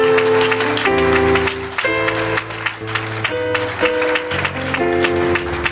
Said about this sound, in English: Now, if you are clapping, clap. You are clapping for Jesus. Clap very well. Clap very well.